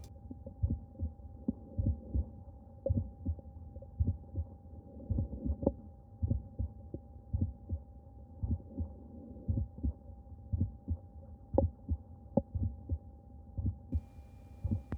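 A steady heartbeat heard through a stethoscope, with regular low thumps and a sharp extra click, an aortic ejection click, just after the first sound of each beat, over a faint continuous hum; a patient of about 50 with a bicuspid aortic valve, the click heard at all auscultation points.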